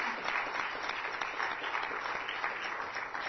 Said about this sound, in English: Let's just give the Lord a nice hand clap of praise.